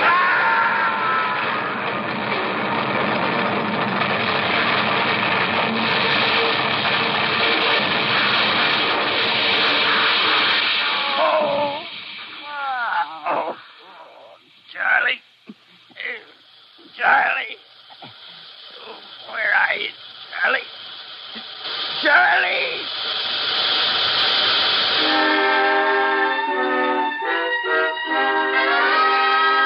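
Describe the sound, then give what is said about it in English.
A train roars along with a steady, hissing rumble, then hits something on the track in a series of loud, jolting crashes and impacts, ending in a harsh, blaring tonal sound. “Hey, there's something on the track. What is it? No, sir. We're going to hit.”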